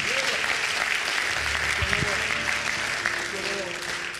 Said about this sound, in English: We are delighted that you've chosen to be with us at Heaven View. Can we just give our visitors a clap of the hands? Thank you. Thank you for being here.